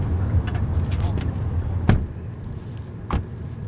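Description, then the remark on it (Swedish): Someone getting out of a car at Gasmossen in Askim: a steady low rumble fills the background, broken by two sharp, short thumps a little over a second apart, like a door being handled and shut. “Vi kliver ur bilen vid gasmossen i Askim.”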